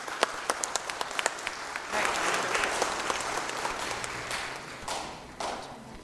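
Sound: audience applauding veterans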